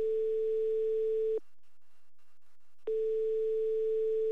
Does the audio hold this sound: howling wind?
no